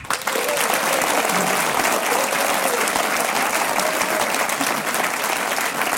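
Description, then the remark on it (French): A crowd, the contestants' audience at a game, applauds steadily and loudly for several seconds, a dense wash of clapping hands that stays even from start to finish with no voices standing out. “Ah, c'est encourageant hein, ces applaudissements.”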